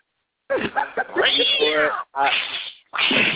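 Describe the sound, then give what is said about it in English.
A cat meow sound effect is played: a cat meows loudly and insistently in a run of drawn-out, wavering cries, three in quick succession with brief gaps, somewhat tinny. “do we have a cat flack side effect? That would be a good time to play it if we had one.”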